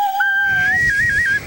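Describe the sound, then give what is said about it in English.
A frog-shaped toy whistle is blown in one long breathy note that starts low, steps up to a higher pitch, then wavers and trills before cutting off, with airy rumble beneath. “What part of the frog publicly. I have to blow in here?”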